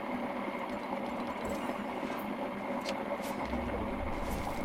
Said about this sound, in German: Digga, was ist das für ein Sound? Sorry, ist Kaffeemaschine. Was? Kaffeemaschine? Ja. Das stimmt wirklich.